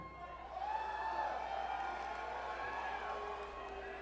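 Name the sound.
audience booing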